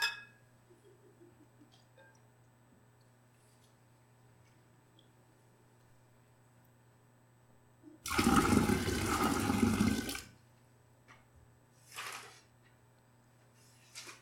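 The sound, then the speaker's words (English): Water is poured into a small pan set down over a carpet in a single loud splash lasting about two seconds, rushing and bubbly, with no talking. A steady low hum runs underneath, and a brief softer rustle follows. “So I've got a little pan down here, so I'm not actually pouring water on the carpet.”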